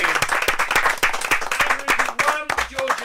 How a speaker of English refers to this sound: Can we have a round of applause for Andrew Ridge? Yay!